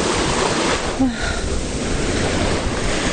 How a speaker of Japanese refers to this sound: はい、今日は結構波があります、はい。